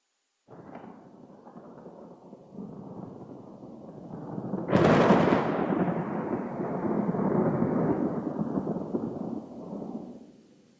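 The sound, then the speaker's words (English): Thunder rumbles low for several seconds, then a sharp, loud crack breaks into a long rolling peal that slowly fades. No voices are present. “From the throne came flashes of lightning, rumbling and peals of thunder.”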